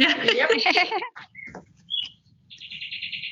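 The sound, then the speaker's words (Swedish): A voice imitates a chick chirping for a just-finished needle-felted wool chick, with a burst of high, squeaky peeps, then a few short tweets and a sustained thin whistle, moderately loud. “Nu är min kyckling färdig, nu kvittrar då.”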